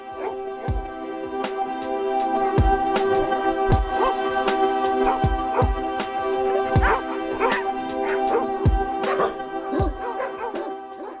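A dog barks repeatedly in a steady series of sharp woofs, some with yippy, whiny edges, over a constant background hum with no talking.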